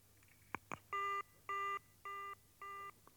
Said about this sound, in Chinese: 突然电话铃响了，宋柯走过去接电话